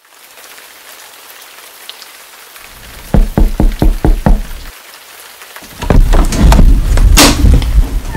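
Steady rain hisses softly outside, interrupted by about six quick, evenly spaced knocks; then the downpour suddenly swells and becomes loud.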